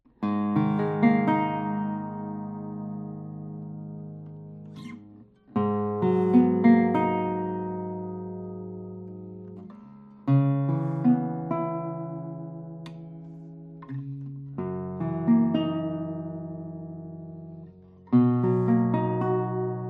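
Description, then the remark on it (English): An acoustic guitar with a spruce top, flamed maple back and sides, a 64 centimeter scale and a smaller body is played alone: five or so strummed chords, each with a crisp attack that rings out and slowly fades before the next, giving a warm, soft, mellow tone. “I will try to play a few tones on it and then we will discuss the sound.”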